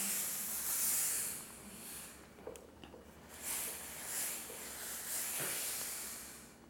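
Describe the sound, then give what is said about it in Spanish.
A steam iron releases hissing steam in several long, airy bursts that swell and fade, with brief quieter gaps and soft clicks between them, while sleeves are being ironed, with no talking. “Luego las mangas, pues con el vapor, que además sale muchísimo.”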